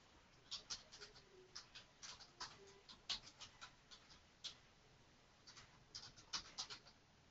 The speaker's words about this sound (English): We can hear typing. Yep, we can.